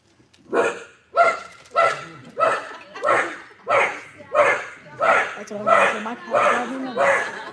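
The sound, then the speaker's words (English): A small dog barks and yips repeatedly in a steady, insistent rhythm, about ten sharp, high-pitched barks in a row, fairly loud with no other sounds between them; the little dog wants water. “even the animals, no food, no water. Hale's little dog, bless its heart.”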